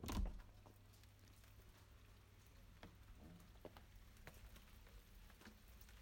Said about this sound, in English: Yeah, I think you get the general idea. It is steady rain. It's not really cold though, it's quite mild.